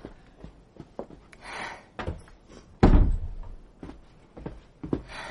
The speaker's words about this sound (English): Shut the door